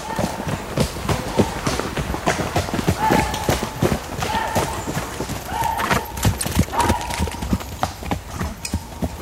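horses' hooves and whinnying

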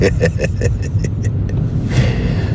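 car driving

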